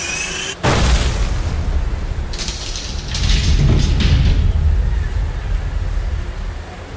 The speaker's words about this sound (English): Riva's curses grew louder until, finally, the incandescent glyphs exploded, and the door slowly squeaked open.